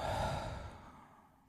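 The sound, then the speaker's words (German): A long, audible breath pushed out fully through the mouth during the 4-7-8 breathing exercise, a soft airy whoosh that starts fairly strong and gradually fades away over about a second and a half, with no talking. “Ihr legt euch ganz entspannt hin und schließt die Augen, legt die Zungenspitze ganz entspannt an den oberen Gaumen hinter die Schneidezähne und atmet einmal komplett die Luft aus dem Mund aus.”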